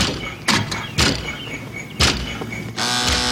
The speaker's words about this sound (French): Et là, c'est sur une vieille Jeep qui tape.